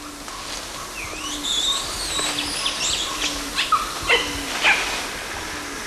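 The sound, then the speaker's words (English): A few short, sharp animal barks ring out in the second half, spaced irregularly against a steady outdoor background of high chirps and whistles, with no one talking. “I think we got one of those barks.”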